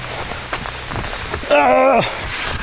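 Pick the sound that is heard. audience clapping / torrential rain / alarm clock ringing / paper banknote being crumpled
torrential rain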